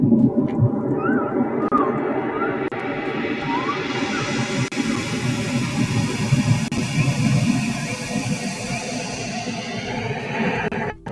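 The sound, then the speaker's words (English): Continuous ocean wash with a little bird sound added, a dense rushing roar that stays steady throughout, with faint, brief rising chirps surfacing above it during the first half. No one speaks. “Okay, so that's the ocean.”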